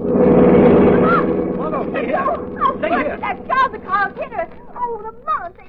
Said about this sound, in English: There's a car coming. There's very little traffic here, so late. They're coming very fast.